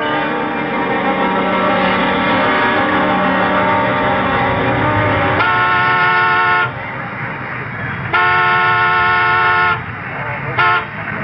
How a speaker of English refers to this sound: And if one of us is late, honk the horn as a reminder. Make it too long, one short.